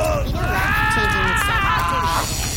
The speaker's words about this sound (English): That screaming is not from me, though. Who's screaming?